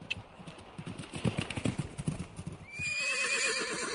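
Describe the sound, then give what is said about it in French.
Hooves clip-clop in a steady rhythm for a few seconds, then a horse lets out a loud, drawn-out whinny. “D'Artagnan aurait pu chevaucher encore des heures, mais son cheval avait besoin de repos et de foin.”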